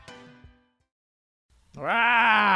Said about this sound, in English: Ah. Oh, you got a little growl out there. That was not me. No, that wasn't you. I thought it was.